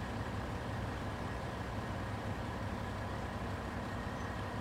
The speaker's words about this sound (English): The bus arrives at their new school. The kids stay inside the bus, staring out at the school.